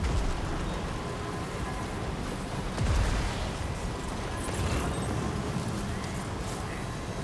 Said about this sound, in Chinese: 哇，有雷劈嘅，仲要屌！